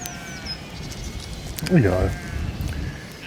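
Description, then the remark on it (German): A person imitates a sheep with one short, wavering "baa" bleat, fairly loud, trying to get sheep to bleat, over a quiet outdoor background with faint bird calls. “Hallo Schaf, sag mal was. Nee, ich bringe mir den Schafe dazu. Mäh!”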